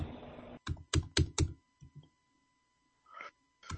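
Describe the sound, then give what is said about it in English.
A quick burst of laptop keyboard typing, several sharp key clicks in an uneven rhythm, fairly loud, followed by a pause and a couple more soft taps. “That's just his laptop, man. I love the feel of these keys, though.”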